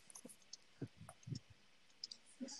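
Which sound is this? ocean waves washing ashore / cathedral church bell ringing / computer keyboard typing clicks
computer keyboard typing clicks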